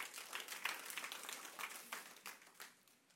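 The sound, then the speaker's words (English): A crowd claps together in a steady, dense patter of many hands, fairly soft overall, with a few sharper bursts rising out of the wash; no one speaks over it. “I feel like we got to clap right there.”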